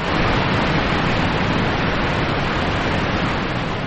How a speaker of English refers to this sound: That thundering crash is the tens of thousands of cubic feet of water that flow each second over Niagara Falls, which includes the American Falls and Horseshoe Falls.